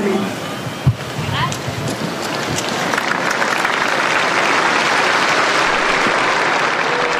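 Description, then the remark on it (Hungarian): A large outdoor crowd in St. Peter's Square applauds Pope Francis after his blessing, a dense wash of clapping that swells after a brief sharp knock and holds loud and continuous to the end, with faint voices mixed in. “Ma sem maradt el a Szentpéter téren a szokásos taps, amellyel megköszönik Ferenc pápának az áldását, az ő tanítását.”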